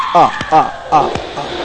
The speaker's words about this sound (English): And stop screaming, it's irritating.